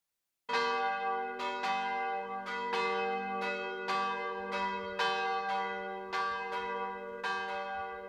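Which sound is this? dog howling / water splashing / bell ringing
bell ringing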